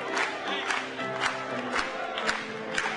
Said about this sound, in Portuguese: Batamos palmas para ele mais uma vez.